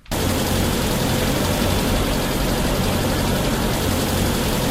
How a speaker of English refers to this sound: A car. You jump over these.